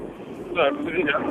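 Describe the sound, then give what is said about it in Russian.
A steady, droning engine noise fills the cab of a big blue MTZ tractor made in Belarus, a constant muffled rumble that continues under a person's voice speaking partway through. “А у тебя типа верх открытый, что ли, так шумно? Нет, это в салоне просто так.”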